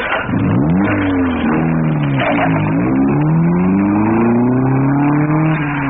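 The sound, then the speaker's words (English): A car engine starts and revs hard, its droning pitch climbing and dipping several times before settling into a steady rising whine. Loud and continuous, with no voices. It is David Brinkley's car starting outside the NBC building. “David Brinkley speaks first as he gets in his car and says, good night, Chet.”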